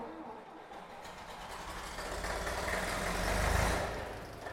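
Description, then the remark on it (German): A bright red vintage Hanomag tractor in an exhibition hall is started with a lever at the steering wheel. Its engine rumbles up from a low start and runs steadily, the chugging growing louder before easing slightly, with a faint murmur of voices in the background. “Dichte Biestadt ein knallroten Hanomag. Gerdes stich up und luck an ein Hebel und at Stür. Geht schon los.”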